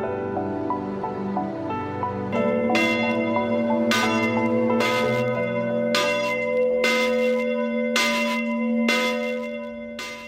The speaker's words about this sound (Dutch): Beste ouders, broers en zusters, het is nu middag en ik hoor de klok luiden.